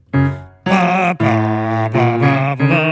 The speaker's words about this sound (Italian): E che suoni, ci vuole uno strumento che suoni anche un po' in basso, insomma, morale. È il trombone. E cosa ci fa qua il trombone? È un assolo. Sì, perché il pezzo è costruito come se fosse scritto per big band